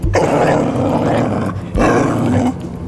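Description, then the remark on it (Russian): A black, shaggy dog growls twice in long, rough, rumbling bursts, loud, with a brief pause between them and no talking. “Смотрите, перед императором появился пес. Черный весь и взлохмаченный.”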